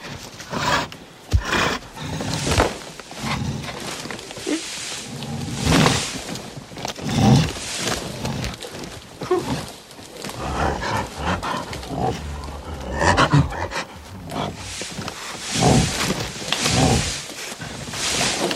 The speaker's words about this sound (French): Il répond par une sorte de bougonnement, un gros murmure de gorge qui essaye d'être une politesse, sans beaucoup y parvenir.